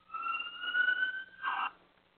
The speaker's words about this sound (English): The alarm has been sounded. The alarm has been sounded.